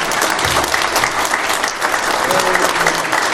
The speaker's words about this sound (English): So let's give all the mothers another big round of applause.